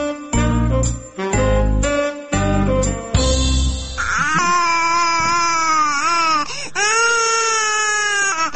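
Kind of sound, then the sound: human body sound, baby crying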